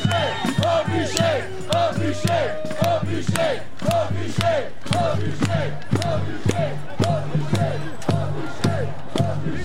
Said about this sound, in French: Et vous entendez la foule qui hurle contre cette personne qui représente tout ce qu'on déteste.